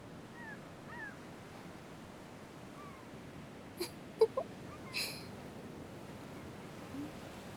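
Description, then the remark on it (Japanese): A few faint, cat-like mewing calls of black-tailed gulls flying over the sea drift in over a steady wash of surf, with several sharp knocks partway through. “あの海猫たちって何考えながら飛んでるのかな”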